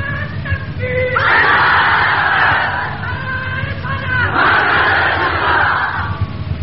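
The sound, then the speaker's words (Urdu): A large crowd chants the religious slogan "Nara-e-Risalat" in unison, two loud sustained surges of massed voices rising after a brief solo call, with a rumbling hubbub underneath. “نعرہ رسالت، نعرہ رسالت.”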